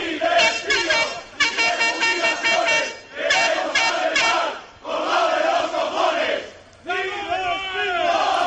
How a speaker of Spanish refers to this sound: Sí se han acercado a las puertas de este organismo en la calle de Asturias para gritar, en la calle Asturias de Oviedo, para gritar su mensaje.